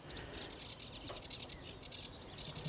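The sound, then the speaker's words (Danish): A sedge warbler sings a fast, scratchy, continuous song of rapid chattering notes and buzzy trills, clear over a low background rumble. “Og der er en fin sivsanger der.”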